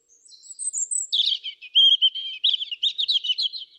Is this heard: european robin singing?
yes